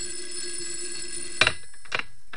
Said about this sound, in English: As I was about to lift him off the bed, the phone rang. A shrill ring filled the room.